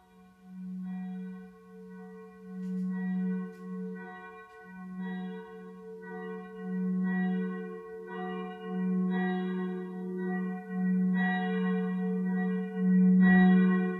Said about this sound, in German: Glockengeläut.